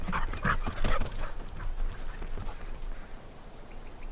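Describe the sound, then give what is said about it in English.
A dog whimpers a few times while its paws and body shuffle and tap about on a hard floor, the sounds clustered early and then fading into soft movement. “Good dog.”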